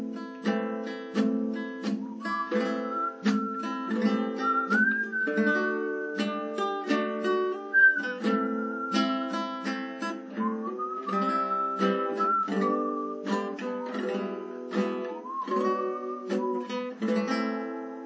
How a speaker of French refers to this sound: Je siffle le chant pour bien le mettre en place avec les accords.